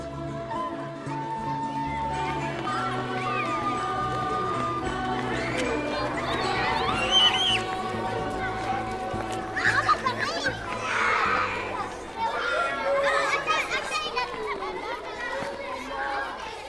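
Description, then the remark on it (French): Children playing outdoors among greenery, disturbing a bird: a lively mix of chattering young voices, shouts and bursts of laughter that rise and fall continuously, with brief louder peaks of excited cries. “Les enfants viennent troubler l'oiseau.”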